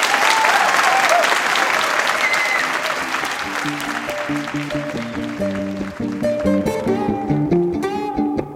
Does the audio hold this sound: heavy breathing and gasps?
no